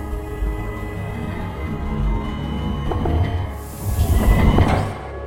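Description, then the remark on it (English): A low mechanical hum builds, then a hissing sliding separation door to a chamber opens after a fist slams its release mechanism, starting slow and gaining speed in a loud rush of air before cutting off abruptly. “there was a hiss as the separation door opened, slowly at first, but soon gained speed”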